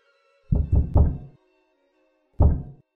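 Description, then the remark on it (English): Three heavy, rapid knocks on a door, a pause of about a second, then one more hard knock. The blows are loud and booming with no voices. “Stop hammering.”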